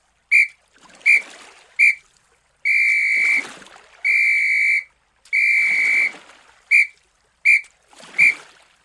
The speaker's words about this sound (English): Short, short, short. Long, long, long. Short, short, short. It's the SOS signal. It's a signal for help.